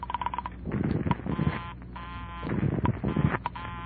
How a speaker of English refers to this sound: As she dialed, I tried to duplicate it with my phone. She dialed. And I dialed. I was just one number behind her all the way. When she was through dialing, I held off dialing the last number on my phone until she got an answer.